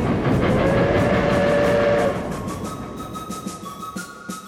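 A train rumbles steadily along the rails, loud, with a brief high whining tone early on before the noise eases slightly and continues with faint rhythmic clatter; a railroad train taking visitors to a canyon park.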